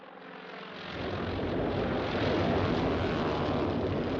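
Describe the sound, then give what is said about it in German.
Propeller engines of Japanese aircraft bombing American warships at Pearl Harbor, Hawaii, on 7 December 1941 drone overhead in a dense, continuous roar that swells over the first second, then holds steady and loud with a faint rhythmic pulsing and no voices. “Japanische Flugzeuge bombardieren amerikanische Kriegsschiffe, die vor Pearl Harbor ankern.”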